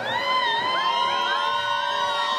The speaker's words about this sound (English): And here we have a crowd.